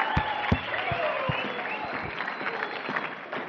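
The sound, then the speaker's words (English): A crowd claps steadily in applause for the people who shared, a dense patter of many hands with a few sharper individual claps standing out, sustained at an even loudness throughout. “So that's let's give them a round of applause, all these guys that were able to share.”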